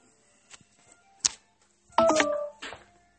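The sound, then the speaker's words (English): A phone gives out an odd electronic noise: a few soft clicks and thumps, then a short, buzzy warbling tone lasting about half a second, followed by one more brief burst. No one talks. “Why is your phone making sail noises?”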